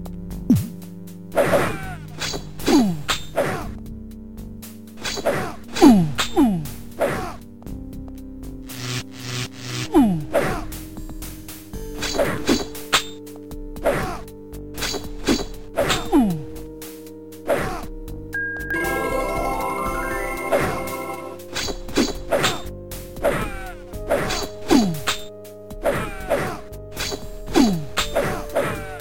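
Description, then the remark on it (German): Combat in the video game Lands of Lore, with two fighters using swords and one a crossbow: a rapid run of sword whacks mixed with sharp crossbow clicks in an irregular rhythm over sustained tonal game music, with a bright rising shimmer partway through; a lightning spell and a healing-spell melody are also heard. “zwei mit Schwertern, eine mit der Armbrust, das klingt dann Schlag, Schlag, Klick, Schlag, Schlag, Klick.”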